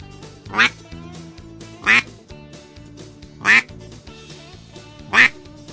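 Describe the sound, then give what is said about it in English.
Four loud, single quacks blown on a duck call, spaced about a second and a half apart, each short and raspy, over a low, steady tonal background. “That's a single quack.”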